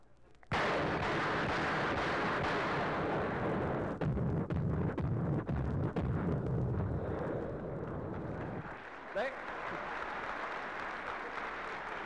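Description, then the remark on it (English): A 40-millimeter cannon fires at a duck in a loud, relentless barrage of heavy booming shots that blur into a continuous roar for about eight seconds, then drops to a lower, rumbling wash. No one speaks. “Somebody on the other side opens up with a 40-millimeter cannon.”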